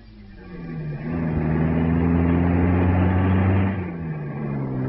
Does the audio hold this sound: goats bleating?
no